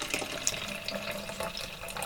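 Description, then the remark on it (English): A limited-batch raspberry sour beer pours from a can in a steady stream, with continuous splashing, fizzy hiss and a few small gurgles over about two seconds, no voices. “Pours a little bit on the thin side, but looks good.”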